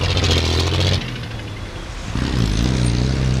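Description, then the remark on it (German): Loud, dense street traffic in Nairobi, with cars, motorcycles and trucks jostling for space: motorcycle engines buzzing and revving, low rumbling motors layered together, a brief dip in the roar before another engine surges in steadily. “Autos, Motorräder und LKW kämpfen um jeden Zentimeter. Das Knattern und Brummen ist ohrenbetäubend.”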